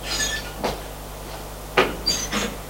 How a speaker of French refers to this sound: C'est le couloir d'un grenier. Il longe le couloir. Ouvre une porte.